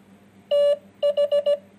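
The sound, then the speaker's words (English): Morse code beeps spelling the word "the": one long steady tone, a brief pause, then four quick short beeps, and a final short beep just starting. All are loud and at one clear, mid-high pitch. “Now let's listen to some common words in Morse code.”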